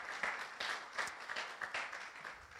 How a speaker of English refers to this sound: oh yeah, you can clap for that, that's cool.